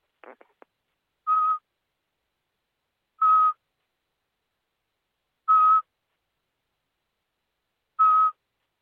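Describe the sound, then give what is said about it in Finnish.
Someone whistles an imitation of a Eurasian pygmy owl: four clear, evenly spaced single toots, each about a third of a second, after a few faint clicks at the start. “Eli tästä tulee ensi varpustöllä.”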